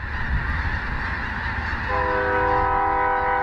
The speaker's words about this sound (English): It's snack time for thousands of snow geese at these Arkansas fields of rice and wheat.